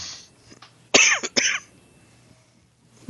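A person coughs twice in quick succession, loud, each a short harsh burst, with a quiet pause before and after.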